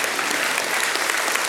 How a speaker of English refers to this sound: Here's the Christmas story from around the world. You can clap.